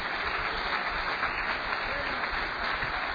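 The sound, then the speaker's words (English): An audience claps steadily together, a dense, continuous patter of many hands at an even loudness for a few seconds, with no one speaking over it. “Let's clap a hand a little more if you believe that.”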